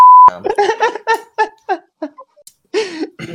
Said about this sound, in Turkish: Ya şurayı biplesene.